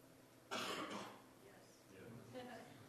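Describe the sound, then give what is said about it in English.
A single sharp cough bursts out from the audience, followed by faint murmuring voices. “One cough and three yeses.”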